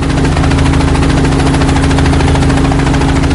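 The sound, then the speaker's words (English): A helicopter roars past low overhead, its loud, steady engine drone layered with a rapid, even thudding of rotor blades that holds throughout, with no voices. “The boys screamed and waved their paddles wildly as the helicopter flew low over them.”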